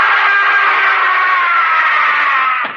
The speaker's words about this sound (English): What woke me was Sheldon's scream.